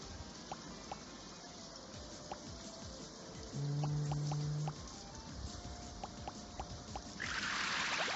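Steady synthetic rain hiss with scattered sharp water-drop plinks from level 1 of the video game Inside the Storm, a low humming buzz swelling in for about a second midway, and a brighter splash of noise rising at the end.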